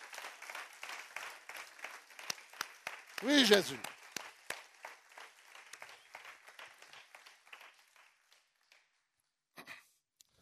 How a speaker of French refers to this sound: On va applaudir le nom de Jésus pour sa grâce, fort et puissamment.